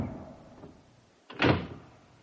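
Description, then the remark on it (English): A heavy oak door slams shut with a single loud, booming impact that rumbles low and fades over a second, after a quiet lead-in with faint shuffling. “but for some inextricable reason, perhaps by a spring or a weight, the ponderous mass of oak whipped itself out of my fingers and clanked to with a formidable rumble and a noise like the falling of an automatic bar.”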